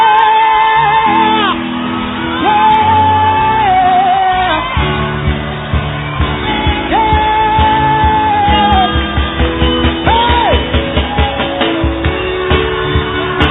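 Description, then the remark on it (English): An audience shouts and whoops together, loud and continuous, with high sustained cries rising above a dense wall of voices and rhythmic pulses building toward the end. “You're not shouting for nothing.”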